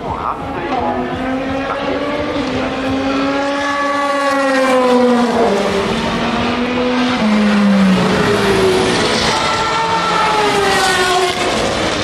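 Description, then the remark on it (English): A high-revving Valkyrie hypercar engine screams loudly, its pitch climbing and dropping through gear changes as it races past on a track, with a steady roar of track noise throughout. “That was the Valkyrie, that...”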